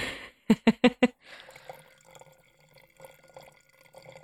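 Wine glugs out of a bottle in four quick, hollow gulps, then settles into a steady, softer trickle of liquid filling a glass. No one speaks.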